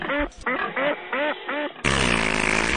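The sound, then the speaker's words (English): A duck quack sound effect: five quacks in quick succession, loud, followed by a burst of denser, overlapping quacking that fills the rest of the moment. “What the duck am I talking about?”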